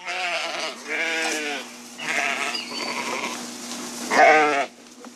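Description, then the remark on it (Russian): Sheep bleat repeatedly, four wavering, nasal calls in close succession, clear, with the last one the loudest and a faint steady hum underneath. “Но все же, как в жизни Александра, который по профессии кондитер, появились овцы.”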